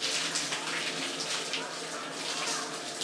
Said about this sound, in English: But when I finish this shower, I'm going to have a quick shave, and then we're going.